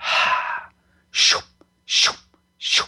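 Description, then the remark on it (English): Four breathy, wind-like blowing sounds made by a voice as a healing practice to blow away stuck energies: a longer rushing hiss first, then three short sharp puffs of air at a steady pace, each loud and noisy. “Often I use like white noise and breathy sounds to blow away the issue.”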